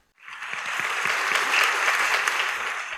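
A crowd breaks into sustained applause, a dense wash of many hands clapping that starts abruptly and holds steady and fairly loud for the whole stretch, with no voices over it.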